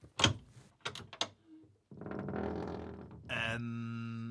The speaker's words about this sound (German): Ich öffne die Tür.